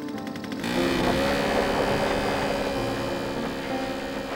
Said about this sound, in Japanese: 車が通っていたところは輪立ち状になっていて、小石とかが少ない。そこを選んで走った。だがそれでも砂利道は砂利道である。少し大きな石を踏んでバイクはしょっちゅうガタガタ揺れた。